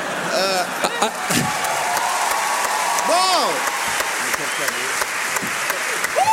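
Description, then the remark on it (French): An audience applauds steadily, a dense wash of clapping that fills the room, with a few louder sharp thumps and some voices talking and calling out over it. “Pendant les applaudissements, tu bois une petite gorgée.”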